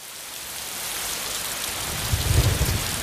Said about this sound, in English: With the onset of winter, the rain came down in sheets. It was refreshing at first, but soon the fields and paths turned to mud beneath us.